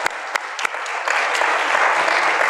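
A crowd breaks into applause for the church's youth pastor as he is introduced as the first speaker, starting with a few scattered sharp claps and quickly swelling into steady, dense clapping at a consistent, fairly loud level.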